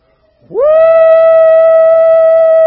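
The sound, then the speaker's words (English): A single loud, sustained "woo" call from a human voice imitating a shepherd calling sheep. It sweeps sharply upward, then holds one steady, high pitch for about two seconds. “Said that shepherd will walk up onto the hill overlooking that fold of sheep, all of them, and said all of them at the same time will begin to call, woo!”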